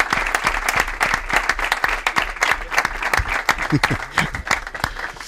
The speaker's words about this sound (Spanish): Vamos a dar un aplauso al Día Mundial de la Radio. Bueno, a Vicente del Bosque, por favor.